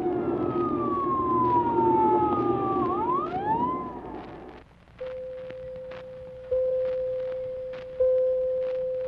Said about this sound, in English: The siren came, and the ambulance appeared, and the deputy.